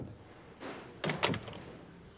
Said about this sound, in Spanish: La puerta del cuarto se cierra automáticamente, por lo que o se le permitió ingresar a la persona o esta poseía una llave.